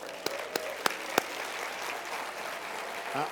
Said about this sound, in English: Behold, I give you power. Go ahead, read it. Come on, let's clap about that.